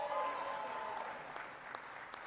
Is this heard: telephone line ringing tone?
no